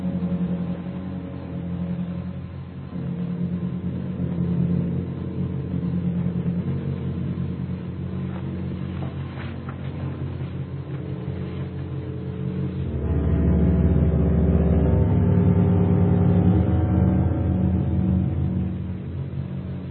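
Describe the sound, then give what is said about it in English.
An airplane engine drones steadily with a low, humming pitch and layered harmonic tones, then swells louder and deeper for several seconds before easing slightly. No voices are heard. “Maybe it's one of our own planes.”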